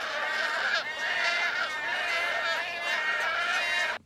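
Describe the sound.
A person imitates a wood stork call with a harsh, raspy, wheezing croak held for about four seconds, fairly loud, with no other talking.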